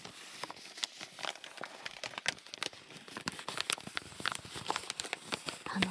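A washi paper bag holding okaki rice crackers, bought at a somewhat pricey Japanese confectionery shop, is crinkled and rustled open, with a steady stream of dry, irregular crackles and crisp snaps for several seconds. No one speaks.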